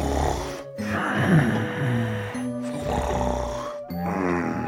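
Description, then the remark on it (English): Loud snoring of a father: rough, rattling rumbles drawn out over several seconds, broken by brief pauses between about three long breaths, with no talking. “The Greta was only my dad, who had a terrible problem with snoring.”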